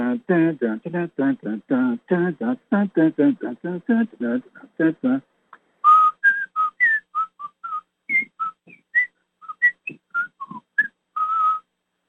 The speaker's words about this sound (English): One of my favorite themes to whistle along to is the theme of the Beverly Hills Cop. Remember that one?